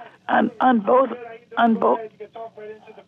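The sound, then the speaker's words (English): A caller's radio plays loudly in the background of a live phone call, its voices coming through thin and tinny in short bursts of speech over a steady low hum. “You got to turn your radio down.”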